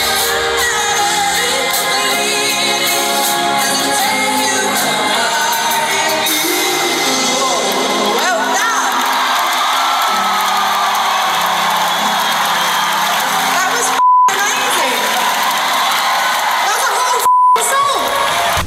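A huge concert crowd sings a melody together, loud and continuous, with cheers and whoops mixed in; two short censor bleeps cut through near the end.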